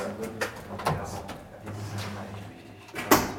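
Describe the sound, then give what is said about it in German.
A door being opened in Rostock, heard as a few sharp clicks and knocks of handle and latch spread over a few seconds, over a low steady hum with faint voices. “Oh, schon allein, so eine Tür.”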